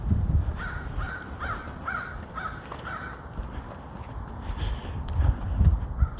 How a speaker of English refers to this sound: We had a lot of crows around here this afternoon.